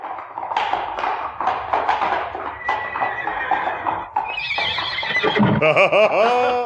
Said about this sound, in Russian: хорошая лошадь.